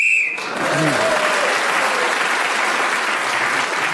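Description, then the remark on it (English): A short, shrill whistle blown to end the round, while Clement Freud was speaking, cuts off almost immediately, and a studio audience breaks into steady, sustained applause that carries on to the end. “So Clement Freud was then speaker of the whistle and gained that extra point.”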